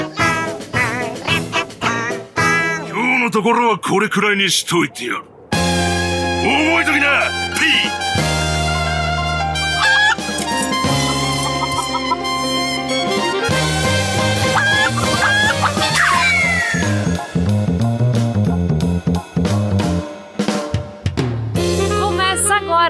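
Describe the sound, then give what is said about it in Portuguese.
A loud, busy opening jingle plays for about twenty seconds, with layered instruments and bright melodic lines, briefly dropping out near the start before surging back at full volume. “Sem mais delongas, bora pra essa abertura que não tem espada aqui.”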